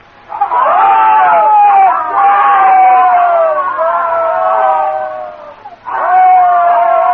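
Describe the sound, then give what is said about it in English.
Thousands of voices from regiments of men and robots lined up scream their welcome as Gorg strides toward a rostrum, a loud, sustained roar of many overlapping voices, dipping briefly near the end before surging up again. “As Gorg strides toward a rostrum, thousands of voices scream their welcome.”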